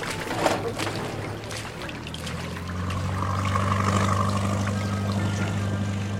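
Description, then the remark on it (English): A rowing boat moves through water, with continuous sloshing and rushing water over a steady low rumble that grows slightly louder partway through; no voices. “you're coxswain. Get us moving!”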